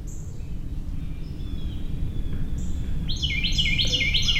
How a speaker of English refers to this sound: There we go. That's the Carolina Wren. As I said, the little mnemonic help you remember that pattern or rhythm. Tea kettle is the most common one.